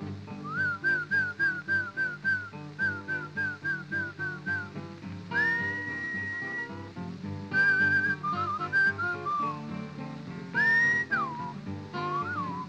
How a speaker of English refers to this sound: You didn't call him right. You must whistle when you want your horse to come to you. Something kind of like this.